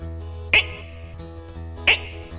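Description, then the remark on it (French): Two short, sharp croaking bursts about a second apart, a voice imitating frogs calling, with a low steady hum underneath and no talking. “Et même de temps à autre, on entend certaines grenouilles qui font.”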